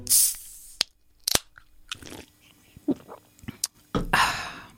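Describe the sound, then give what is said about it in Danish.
Someone takes a sip of diet soda containing phosphoric acid, aspartame and natural flavourings, with hissy slurping bursts, a couple of sharp clicks, and soft swallowing and mouth noises in between, ending in another fizzy slurp. “Nu skal det blive godt med en slurk fosforsyre med aspartam og naturlige aromaer.”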